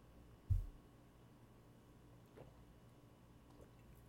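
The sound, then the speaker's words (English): A single wet sip of a tequila cocktail made with Espolón Reposado, then near-silence with a couple of faint, soft liquid sounds trailing off. No one speaks. “first I want to have sips.”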